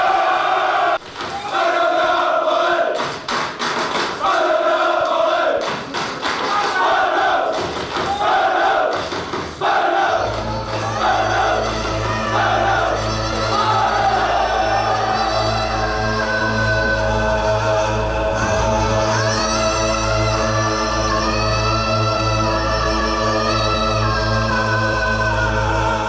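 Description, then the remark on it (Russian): A large crowd of football fans roars and shouts in loud, dense bursts, then settles into a sustained, droning chant with a steady low hum underneath that carries on to the end. “Настоящий фанат футбола – это особый стиль жизни, особая татуировка и прическа, желательно бритая голова и идеология скинхедов, агрессия и тайные ритуалы, ненависть к чужакам и сходки с диким ревом.”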